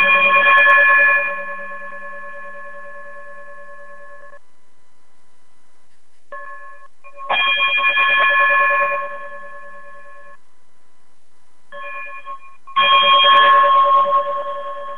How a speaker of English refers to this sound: if you would be so kind and chime us out of here.